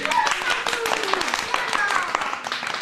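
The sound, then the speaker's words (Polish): A group claps in welcome in a steady, dense patter of sharp hand claps lasting the whole moment, with voices and a few high-pitched calls mixed in over the applause. “Witamy cię brawami.”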